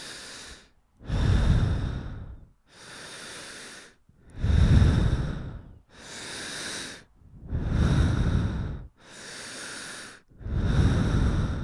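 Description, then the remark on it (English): Heavy breathing of a person kneeling on a pillow in the middle of a quiet room, with slow, steady alternating inhales and exhales, about four full breaths, each exhale louder and more airy than the intake. “My breathing feels loud in the quiet.”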